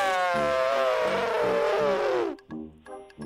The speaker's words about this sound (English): Oh, you got it right. That was an actual elephant? I thought that was Crowder.